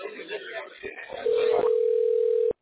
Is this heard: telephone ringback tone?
yes